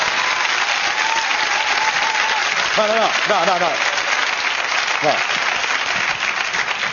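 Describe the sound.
Loud, steady audience applause fills the whole stretch, a dense rush of many hands clapping, with a few brief voices calling out over it partway through.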